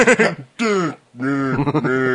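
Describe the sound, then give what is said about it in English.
A person imitates a cow, letting out three drawn-out, droning moos in quick succession, fairly loud, with brief pauses between them. “Have you replaced your voice box with a cow box?”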